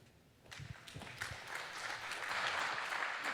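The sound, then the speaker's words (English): A crowd applauds as a speaker is introduced before a talk. The clapping starts with a few scattered claps and quickly builds into a dense, steady wash of hand claps that grows louder toward the end. “Give a big applause.”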